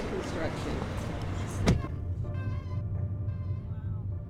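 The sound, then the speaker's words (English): On a sunny spring day in St. Louis, outdoor noise and rustling as someone gets into a car, then a single solid thump of the door shutting, after which the sound turns muffled with a steady low cabin hum and faint tones as the driver fiddles with the radio. “We got into her car, and as I got myself settled, she fiddled with the radio.”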